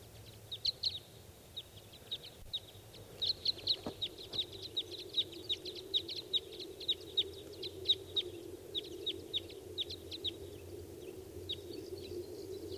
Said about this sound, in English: I hear the calls of more wild birds.